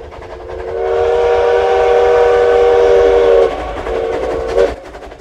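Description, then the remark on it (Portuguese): A tourist steam train running between Morretes and Antonina on the coast of Paraná, Brazil: the locomotive's whistle sounds in a long, loud, steady blast of about three seconds, then a shorter toot follows, over the rumble of the train running along the tracks. “Quem já ouviu o som característico do trem a vapor nunca mais esquece.”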